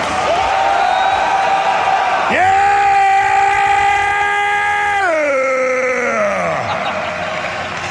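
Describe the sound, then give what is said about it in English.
A crowd in Orlando lets out a loud, sustained war growl, many voices roaring together, swelling into a held yell before the pitch slides downward and trails off near the end. “Let them hear your war growl!”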